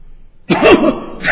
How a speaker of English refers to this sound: than they would take a cold cure recommended by a salesman who coughs and sneezes between each sentence.